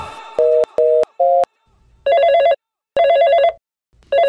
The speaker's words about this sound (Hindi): Phone भी नहीं उठा रही है।